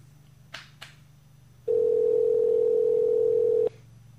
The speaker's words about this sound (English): So we're going to try to make this call and see if we can get through here. Well, there it's ringing at least.